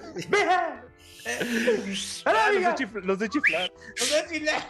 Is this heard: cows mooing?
no